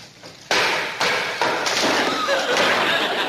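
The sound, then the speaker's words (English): Several heavy hammer blows land on a nail at an uneven pace, each thud adding to a loud, rough wash of noise that carries on between strikes, with faint voices underneath. “Now you hold it while I hammer the nail in.”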